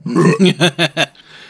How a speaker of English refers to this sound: 2, was that a belch? Bet.